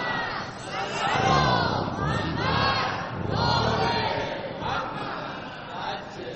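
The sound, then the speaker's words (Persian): A large crowd shouts salutations together in loud, swelling unison when the name of Surah Muhammad is said, the chant rising and falling in several rhythmic waves, with many voices blending into a dense roar. “گفتم دیگه اسم سوره رو ببرم شما فریاد درود و سلامتون بلند میشه.”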